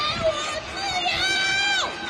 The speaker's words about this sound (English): It sparked anger and protest in the commercial center. Here, people are heard banging pots and pans from their apartment windows. One woman screams, "Give me back my freedom."